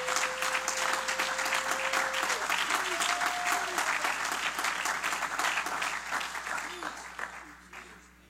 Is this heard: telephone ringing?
no